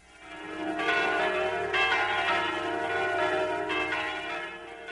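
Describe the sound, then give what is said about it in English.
The bells of the Church of the Holy Sepulchre in Jerusalem peal continuously on Christmas Eve, several bells striking in overlapping succession with rich ringing tones that swell and sustain, heard clearly without any voices. “Those are the bells of the Church of the Holy Sepulchre in Jerusalem.”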